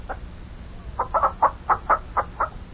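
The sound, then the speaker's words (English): Chickens on a farm cluck in a quick, steady series of short bursts, about eight in under three seconds, moderately loud over a low background rumble. “Get out of the way there, chickens, before we step on you.”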